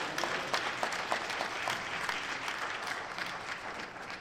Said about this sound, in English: Come on, give our scripture reader a round of applause.